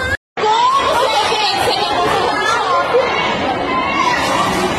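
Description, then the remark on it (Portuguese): A dense crowd of people fleeing a shopping mall that is on fire, many overlapping voices in a loud, continuous babble with scattered shouts, after a split-second gap of silence at the very start. “Ó, todo mundo correndo aí, ó. O shopping tá pegando fogo.”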